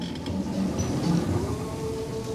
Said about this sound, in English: The whirring sound that slides in and out of the music, that's her power chair zooming across the wood floor of the dance studio.